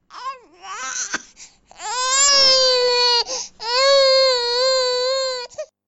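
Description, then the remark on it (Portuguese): A young son wails loudly on the upper floor of a duplex penthouse apartment in Lagoa, in long, sustained cries: a short rising whimper, then two drawn-out sobbing bouts with brief gasping breaks between them, with no other voices. “Estávamos na mesa relembrando os tempos de dureza quando explodiu um choro de criança no andar superior.”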